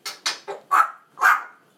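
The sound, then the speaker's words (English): Five short, sharp dog barks ring out in quick succession, the last two fuller and longer, with brief silent gaps between them and no talking. “It's barking like you, isn't she”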